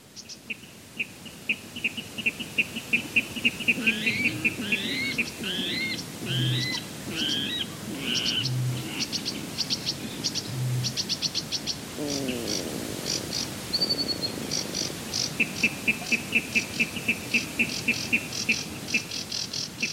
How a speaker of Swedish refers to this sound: Ja, och det där var alltså inte min mage som kurrade. Jag tänkte jag säga det, var det ett magljud jag hörde, men det var det inte. Ja, nej, det var en vattenrall, och det var egentligen nästan allt det andra också.